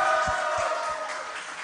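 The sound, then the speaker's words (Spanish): A crowd applauds the youth of the diocese of Escuintla and the young organizers of the tenth Pascua Juvenil, a dense wash of clapping that holds at a fairly even level and eases slightly toward the end, with a few low thumps underneath. “Y un aplauso más fuerte para los jóvenes organizadores de esta décima Pascua Juvenil.”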